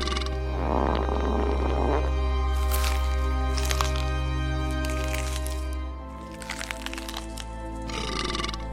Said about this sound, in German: Selbst das Bankett fängt an zu stinken. Durch ihre Ohren peitscht das Geräusch von kauenden Zähnen, Schmatzen, Rülpsen und Furzen.